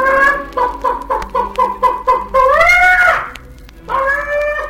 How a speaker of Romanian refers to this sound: Găina sare peste poartă, trece iute pe lângă babă, se pune pe cuibar și după vreun ceas de ședere sare de pe cuibar cotcodăcind.